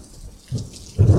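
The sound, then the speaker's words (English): Low thunder rumbles in two swelling bursts, the second louder, with a faint hiss of rain beginning underneath. No one speaks. “At least it's not raining.”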